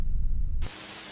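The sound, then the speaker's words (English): A deep, steady droning hum of Dwarnian bomber ships rumbles for about half a second, then cuts abruptly to a flat wash of bright static hiss. No voices. “That humming. Dwarnian bomber ships make a really specific sound.”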